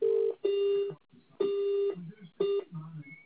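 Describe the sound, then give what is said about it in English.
Three short, steady electronic ringing tones repeat about once a second on a phone line, with faint murmuring voices in the background between the rings and no one answering; an Airtel test call made from a private number. “I'm doing a test call with a private number, but you're not picking it up.”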